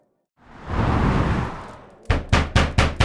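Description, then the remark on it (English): A soft rushing swell fades out, then five loud, sharp knocks land on a door in quick, steady succession. “Loud rapping on my door pulls me out of my bath before I'm ready to leave it.”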